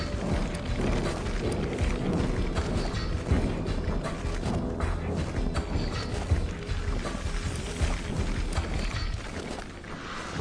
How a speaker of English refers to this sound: Do you hear that, King Saul? It sounds like an army of men approaching from the opposite direction.